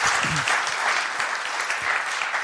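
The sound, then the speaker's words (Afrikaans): A church crowd in George claps steadily for a few seconds to welcome a guest speaker, a dense, even wash of many hands applauding with no pause, holding a constant loudness throughout. “gee my lekker hande klap, en ons ontvang hom.”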